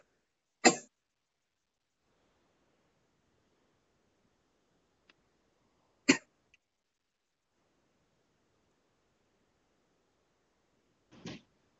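Three sharp, separate coughs, spaced several seconds apart with quiet between them, fairly loud, with no talking.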